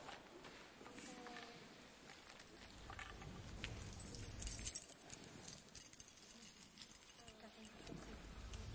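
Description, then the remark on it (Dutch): A bunch of metal keys rattles and jingles continuously for several seconds, a busy clinking with scattered sharp taps, while faint voices murmur underneath. “Ik heb iets meegenomen dat heeft een baard. En het is van metaal.”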